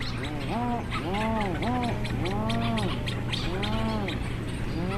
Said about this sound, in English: and then as the light starts coming back, the petrels die down, and then it's just this really, these waves of these moos that kind of sweep across the whole colony.